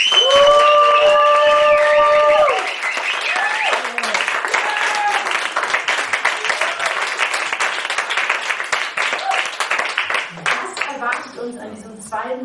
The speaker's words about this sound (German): Ich freue mich auf jeden Fall, dass ihr so zahlreich hier seid und lasst uns die Personen an den Endgeräten zu Hause hören, wie viele wir sind. Macht einen großen Applaus für unseren heutigen Abend.